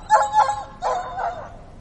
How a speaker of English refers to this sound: One night in the city of Cologne, on some idle pretense, the painter strolls into the street to find the street is empty. The dog begins to howl.